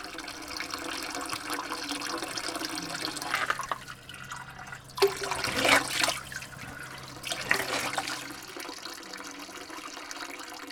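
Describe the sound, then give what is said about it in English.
Water runs and splashes steadily from a spring, with a few louder gushing surges as water bottles are filled. No one speaks. “we come to the spring water. We fill up our water bottles, take a big gulp, because we're going to need a lot of water for today's journey.”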